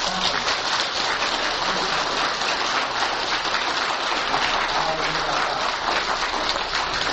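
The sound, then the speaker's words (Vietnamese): Sustained applause from a large crowd for a lecturer at the end of an evening lecture, a dense, steady clatter of many hands clapping at once, continuing without pause for several seconds at an even, fairly loud level. “Nào thư giãn thoải mái để ra về chúng ta nên cổ vào giảng sư bằng một tràng pháo tay thoải mái.”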